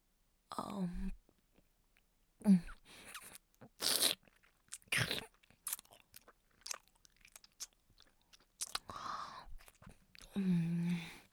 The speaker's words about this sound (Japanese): 社長、どうぞ。私がチンカスもぐもぐするところ、ご覧ください。